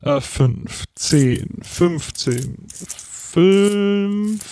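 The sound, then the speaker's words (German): Euro coins, including 2-euro coins, being counted out by hand, with a few short metallic clinks, mixed in with a person talking throughout and a sustained tone near the end. “so, jetzt muss ich, oh, jetzt wird das Kleingeld langsam knapp, das gibt's doch gar nicht, hätte ich auch nicht gedacht, dass mir das mal passiert.”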